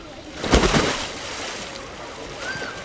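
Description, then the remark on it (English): Water splashes as someone swims in a pool: a loud burst of splashing, then quieter sloshing and rippling water that continues in the background. “while Pegoraro was tracking down his search function, I decided to go for a swim”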